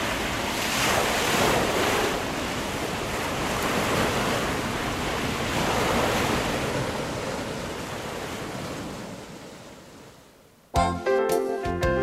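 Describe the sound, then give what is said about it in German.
Ocean surf rolls and breaks steadily on the shore for about ten seconds, a broad rushing wash with wind noise, before it fades and a short burst of music begins. “Die bringen wir am einfachsten wieder weg, indem wir nochmal ein bisschen den Wellen zuhören.”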